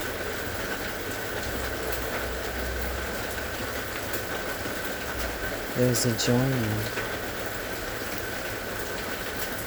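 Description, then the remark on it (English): Steady rain hisses throughout as a continuous, even wash of noise at moderate level, with a person speaking briefly over it partway through. “In this felt deliciousness of the heart and its union with the sound of the rain.”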